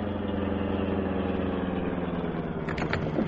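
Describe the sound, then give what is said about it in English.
A car engine idles with a steady, low, droning rumble that holds evenly throughout, with a few brief higher-pitched rattles near the end. No one speaks. “Well, run right up beside their car. Slow down for me to jump off.”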